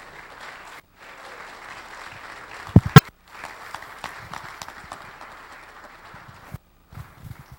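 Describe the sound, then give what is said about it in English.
A round of applause from a church audience at Delray Church, welcoming a guest speaker at a morning service: dense, steady clapping with a few sharper claps, briefly dropping out twice before resuming and fading at the end. “That said, encourage and edify our brother with a big round of applause to welcome.”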